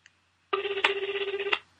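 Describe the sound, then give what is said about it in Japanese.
A phone ringback tone, heard as a radio show phones the next quiz question-setter, plays as one steady, buzzing burst of about a second, pulsing rapidly with a fixed pitch and bright overtones, then stops abruptly. No one speaks. “出ますかね？出てもらいたいけど。”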